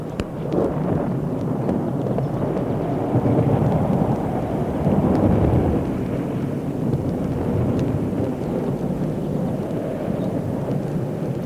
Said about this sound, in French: Puis, petit à petit, l'orage s'est arrêté.